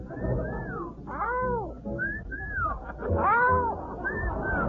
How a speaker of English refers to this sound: I got a brand new whistle that's guaranteed to make the gals come running in a small stampede. Now, if you'll listen very closely, you'll see how they fall. It's a combination whistle with a real wolf call.